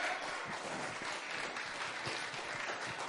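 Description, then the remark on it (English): A church audience claps steadily during a sermon, the dense, continuous patter of many hands at a moderate, even loudness, with no voices standing out. “Somebody clap their hands unto the Lord.”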